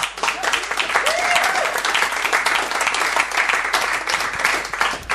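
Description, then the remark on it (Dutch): A crowd claps steadily, a dense, sustained wash of applause that stays loud and even for several seconds, with a faint brief voice or whistle rising briefly within it. “En dat vind ik een applausje waard.”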